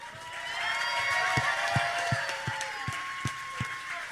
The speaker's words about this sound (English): Ladies and gentlemen, a round of applause for Chelsea.